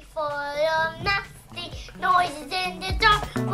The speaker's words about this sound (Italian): Basta questo bambino che canta, fai partire la canzone.